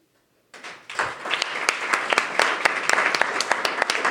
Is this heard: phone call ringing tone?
no